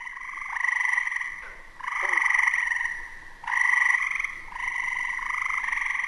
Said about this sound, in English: And then during the late spring and then the summer is when all the tree frogs will come out.